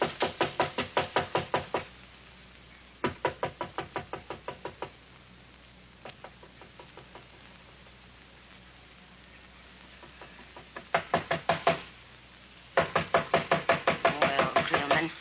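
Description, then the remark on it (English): Rapid bursts of loud knocking on a door, several rounds of quick raps separated by brief pauses, with the last bursts the most forceful and insistent. “Can't let them knock all night.”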